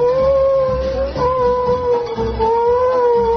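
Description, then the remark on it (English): A timber wolf's long, drawn-out howl at night, coming down from the upper slope, holds a steady pitch that dips and wavers slightly and continues unbroken, loud and clear, over a low rumbling background with no voices. “The sound of a timber wolf coming down from way up on the upper slope somewhere.”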